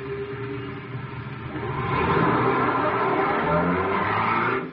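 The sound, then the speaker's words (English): A car engine revs up and the vehicle pulls away, with engine and road noise swelling after a couple of seconds into a steady, continuous roar with a hint of tire squeal. “Perhaps you better drive.”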